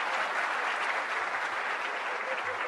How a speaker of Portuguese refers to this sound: Ixi, aplaudi, aplaudi.